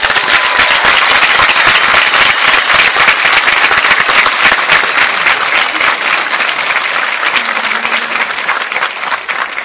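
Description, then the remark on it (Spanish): Loud, sustained applause from a large audience welcoming a speaker, dense overlapping claps filling nearly ten seconds and easing slightly toward the end, with no voices standing out. “Ayúdenme a recibir con el mejor de los aplausos, no cualquier aplauso, el mejor para mí, al mejor orador en este momento,”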